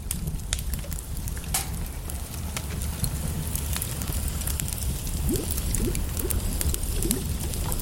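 fire crackling

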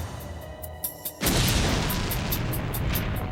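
explosion boom

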